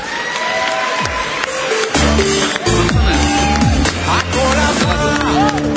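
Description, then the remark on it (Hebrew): A crowd applauds steadily for several seconds as three contestants are invited onto the stage for the final performances, a loud and continuous wash of clapping mixed with cheering and voices, with some tonal sounds running through it. “תנו להם מחיאות כפיים.”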